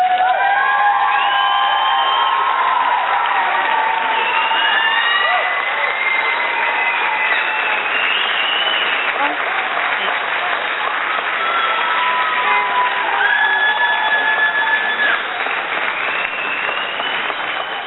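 An audience applauds and cheers steadily for the full stretch, a dense wash of clapping with whoops and shouts rising above it, and no one speaking over it.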